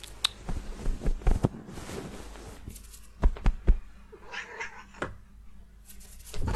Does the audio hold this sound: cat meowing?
yes